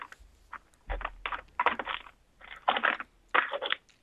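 Someone rummages for an ordinary sheet of notepad paper, with irregular bursts of papery rustling, crinkling and small knocks coming in quick clusters and brief pauses, and no talking.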